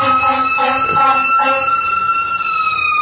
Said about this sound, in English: Really got some sirens going, don't we?